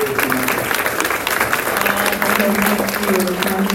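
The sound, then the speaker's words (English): An audience applauds steadily for a 90-year-old woman running for public office, a dense wash of many hands clapping at an even, fairly loud level for the whole stretch, with a faint murmur of voices beneath. “And I'd like to just give her a round of applause.”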